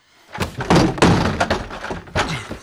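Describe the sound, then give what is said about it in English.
A locked door is forced open to reach Mr. Black, who doesn't answer: several heavy thuds and a cracking break as the lock gives way under repeated blows, followed by rattling and a final loud bang. “I'm gonna break this lock.”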